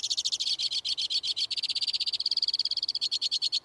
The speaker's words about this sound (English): From the tip-top of a black spruce, a white-winged crossbill sings a rapid-fire tribute to winter. He's got good reason to sing. Even in the cold, crossbills are nesting.